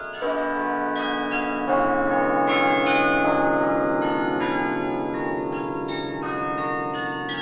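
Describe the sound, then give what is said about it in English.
Carillon bells ring out from Harkness Tower, a landmark on the old campus of Yale University in New Haven, Connecticut, in a steady, overlapping sequence of struck notes, their long resonant tones blending into a continuous, moderately loud chime with no voices present. “They're coming from Harkness Tower, a campus landmark, and they're actually an instrument called the carillon,”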